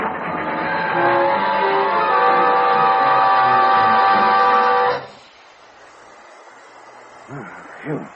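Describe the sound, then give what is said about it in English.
A train brakes hard on a curve with a loud, sustained metallic screech and grinding for about five seconds, then drops abruptly to a low rumble, with a brief voice near the end; the train ends up off the track. “Hey, look, the train's off the track.”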